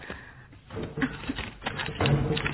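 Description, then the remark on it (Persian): Sheets of paper, worked on for a writing-class assignment, are crumpled: paper crinkles and crackles in quick, irregular bursts, fairly soft, the rustling swelling and thickening toward the end with no voices over it. “این کاغذ ها رو چرا ماچاله کردی؟”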